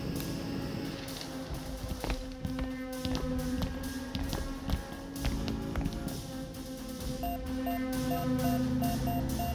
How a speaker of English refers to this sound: Outer door unlocked.